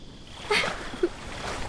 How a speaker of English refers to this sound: I'm escaping into the water. Yes, that's exactly what I'm gonna do. I'm gonna swim away from you. I'll stop splashing when you stop following me.